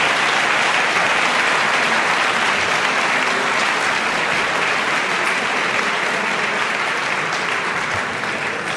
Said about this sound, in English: So I want to say that this has been a spectacularly well-argued debate by both sides. I just want to invite a round of applause for them for what they did.